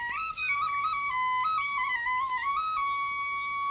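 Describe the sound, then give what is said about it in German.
A nightingale named Pitti sings in the evening as a steady, pure whistle, gliding and stepping between a few high notes in long sustained tones, with no talking over it. “Höre mal zu, wie Pitti trillern kann.”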